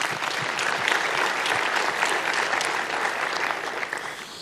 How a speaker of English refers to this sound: But besides that, let's applaud MIO for their kind intention to give a prize.